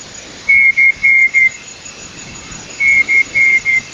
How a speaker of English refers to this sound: Birdwatcher John Young, he was pretty excited. He heard that sound. Had he been looking for the night parrot? Yeah, apparently for something like, you know, 15 to 20 years, he'd been out and about looking.